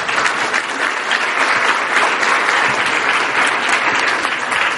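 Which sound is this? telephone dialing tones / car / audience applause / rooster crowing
audience applause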